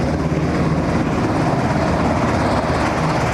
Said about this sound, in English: One of those strange aircraft could be a National Guard Pavehawk helicopter, the kind used in difficult rescue missions in war or in peacetime.